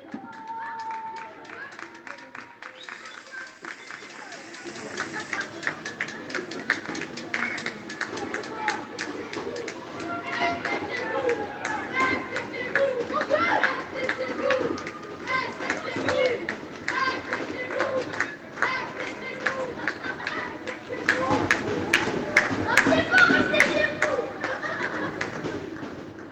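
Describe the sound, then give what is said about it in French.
Many people clap together from balconies. The applause starts faintly, swells after a few seconds into dense, steady clapping, and grows loudest near the end, with scattered voices and bird calls mixed in. “il y a 3 personnes qui applaudissent sur un balcon, du coup tout le monde sort et on applaudit”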